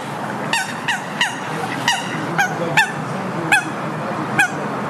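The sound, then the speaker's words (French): A moorhen, a water bird with long green legs, crossing in view, calls again and again, about eight short, harsh honking notes spaced fairly evenly, fairly loud against a steady outdoor background hum, with no one speaking. “Regardez, sinon, vous avez une poule d'eau qui traverse là.”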